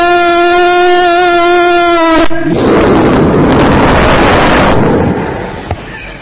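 A steady, buzzing tone cuts off into a loud bomb blast as people run to bomb shelters, a harsh roar like a huge firecracker that rumbles for a few seconds before fading away.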